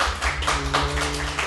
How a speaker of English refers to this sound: Who in here are nerds? Clap your hands so the audio podcast can hear.